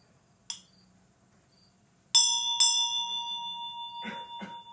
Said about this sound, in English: Anybody have the ability to hear that without the bell ringing? Some of you can do that perfectly.